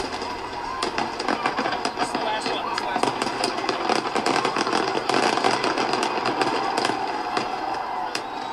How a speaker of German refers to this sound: Alle Jahre wieder krachen in den USA am 4. Juli die Feuerwerke.